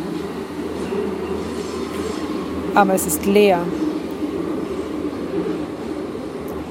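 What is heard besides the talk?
subway train running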